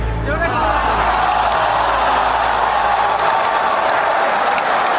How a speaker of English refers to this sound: There's some clapping in there. Yeah, it's mixed. It's mixed.